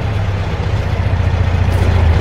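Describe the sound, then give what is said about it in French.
A car engine rumbles steadily with a deep, constant low hum as a car, not a black one, arrives and sits idling at a gendarmerie roadblock at kilometre 28. No one speaks. “Ah, voilà une auto qui arrive.”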